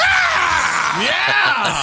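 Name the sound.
screaming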